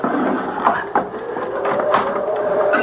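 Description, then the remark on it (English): A wooden bolt scrapes and knocks as it slides back, followed by a long, grinding creak as the heavy door of an old mill swings open, with a few sharp clunks along the way. “All I have to do is pull the wooden bolt back, and the door will open.”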